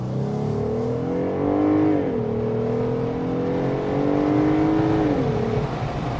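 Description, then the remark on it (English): A truck's Pentastar V6 engine accelerates steadily with the top down, its pitch climbing and then dropping sharply twice as its 8-speed ZF automatic transmission makes quick gear shifts, with no talking. “So that was the acceleration of the Pentastar.”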